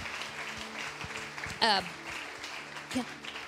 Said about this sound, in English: Can you just give them a hand clap?